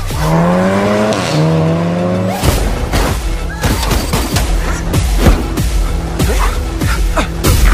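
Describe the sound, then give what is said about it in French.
A big car engine revs loudly with rising, strained pitch, then tires squeal and skid amid a burst of harsh, clattering noise, all intense and without any talking. “Grosse bagnole.”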